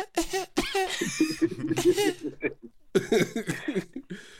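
Exaggerated, theatrical coughing imitating the film Zoolander, in a rapid series of raspy, voiced bursts mixed with laughter, pausing briefly midway before another loud round of coughs.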